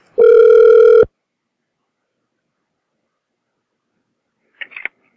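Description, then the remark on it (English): A single telephone ring on a prank call to a hotel, a steady buzzing tone lasting about a second, followed by several seconds of silence and then a brief, faint clatter near the end. “Oh, so this should be him answering the phone.”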